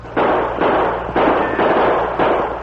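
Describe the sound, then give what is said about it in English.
A rapid exchange of gunshots in a shootout with bank robbers, fired across too great a distance for accuracy, five or six loud, booming blasts in quick succession, each trailing a short echo that runs into the next, with no voices. “The distance was too great for accurate gunfire, and the bank thieves mounted and spurred their horses toward the west.”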